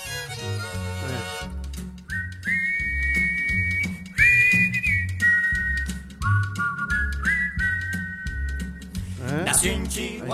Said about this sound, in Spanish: Ellos silbaban y a dúo.